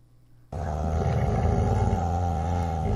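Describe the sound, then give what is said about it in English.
An "Evil Dog" sound effect played by pressing a button on a website: a deep, sustained snarling growl kicks in abruptly after a half-second of near silence and holds loud and steady, rumbling with harsh low-pitched texture like a menacing beast. “once you press the buttons on this website and they start making the noises, I think that you have to go and turn them off again.”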